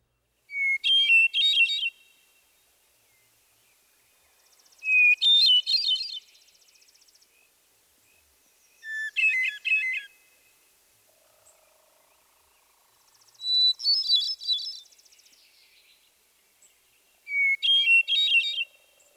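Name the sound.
hermit Thrush song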